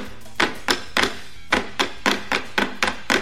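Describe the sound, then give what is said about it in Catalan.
A stick whacks a wooden log, the Catalan Christmas Tió de Nadal, about a dozen times in quick, slightly uneven succession. Each hit is a sharp, hollow thunk, fairly loud, over a faint low hum with no talking. “Cagatió, cagaturró, ho atornaré un cop de bastó.”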